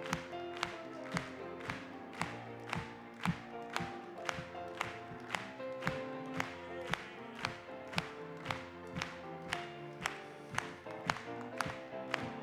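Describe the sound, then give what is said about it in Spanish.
A crowd claps together in a steady, even beat, roughly two claps per second, over continuous group singing of a Spanish-language religious song, the sharp claps standing out clearly throughout. “Vamos a aplaudirle.”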